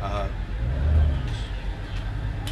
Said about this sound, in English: There's an old military ambulance that's pulling in.